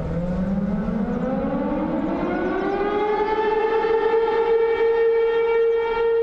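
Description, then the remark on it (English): A civil defense siren, the only one of its kind left in the country and sounded as a town's lunchtime whistle, winds up from a low moan to a steady, piercing wail, loud and sustained over several seconds with a dull background rumble and no voices. “This siren is the only one of its kind left in this country.”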